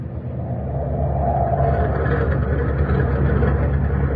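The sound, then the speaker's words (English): A ship's turbines run wide open at full power on the morning of April 18, 1942: a steady, loud mechanical roar with a deep rumbling low end and a broad mid-range hum, holding constant throughout with no pauses or voices. “Listen to the turbines. They've got it wide open.”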